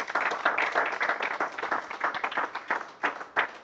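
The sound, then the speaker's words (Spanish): An audience applauds in praise of Christ as King, a dense, continuous patter of many hands clapping at once, fairly loud and steady for a few seconds with a few sharper claps standing out near the end. “Dale un aplauso a nuestro Rey.”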